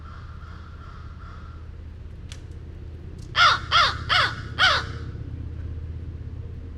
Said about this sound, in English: Okay, well, that's still the same crow. It's really bizarre vocalizations. I've heard them twice like that, once down in Flamingo in the Everglades, and now here in Mayaca State Park.